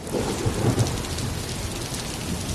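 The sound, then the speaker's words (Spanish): Steady heavy rain hisses across the whole clip while a low, rolling thunder rumble swells underneath, a full thunderstorm with no voices. “Esas tormentas donde hay truenos, hay rayos, hay centellas, estas.”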